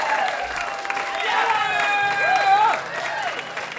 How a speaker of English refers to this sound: Can you guys, let's give him another round of applause for that.